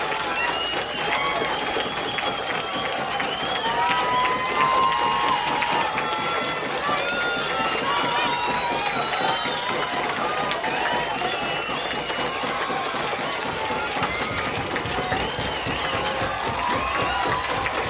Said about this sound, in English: A lot of pounding of feet, hands, glasses, and one person holding a lighted match in the middle of the crowd.